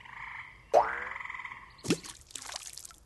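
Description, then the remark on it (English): A frog croaks a few times, each call a sharp onset followed by a buzzing, warbling tail, with brief pauses between calls and no voices. “Spring like a frog.”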